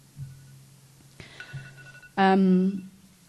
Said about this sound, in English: Does anyone want to take the phone? She got control of it. I think.